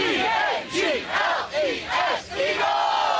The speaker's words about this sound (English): Birds fans in the sky breaking out the Eagles fight song on a plane.